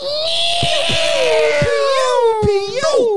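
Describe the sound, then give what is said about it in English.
A voice imitates a TIE fighter with a continuous, loud screeching roar lasting about three seconds. A steady, slightly falling whine runs over a hissing rush, broken by a few sharp clicks. “Yeah, do the TIE fighter.”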